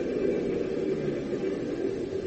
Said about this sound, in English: I think we're pretty close, sir. I can hear the engines plainly. Yeah, so can I.